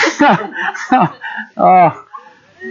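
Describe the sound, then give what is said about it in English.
Ducks quack in a quick, uneven series of harsh, nasal calls in a park below Cannon Hill, several loud honks bunched together with a longer one near the end before fainter chatter trails off. “Let's go down and talk to the ducks.”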